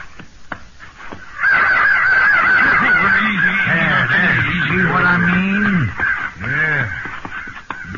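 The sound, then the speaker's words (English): A loud, raucous chorus of crows cawing, many harsh calls overlapping for several seconds, then breaking off before a couple of final caws near the end. “Big for crows.”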